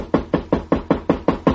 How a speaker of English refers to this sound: Let's go. Knock again.